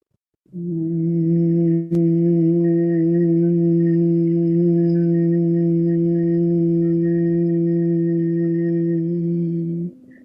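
group humming on exhale

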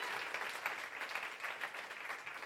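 audience clapping

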